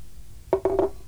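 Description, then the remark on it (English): Champagne glugs from a bottle into a glass at breakfast in three quick, hollow bursts, fairly clear against a quiet background, with no voices. “Champagne for breakfast. Drink up and have another glass.”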